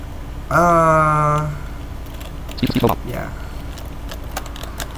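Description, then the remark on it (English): A quick burst of several soft, clicky keyboard typing feedback sounds from a music program, fairly quiet, coming shortly after a brief sustained voiced tone. “I hate the typing feedback on here.”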